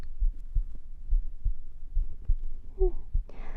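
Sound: heartbeat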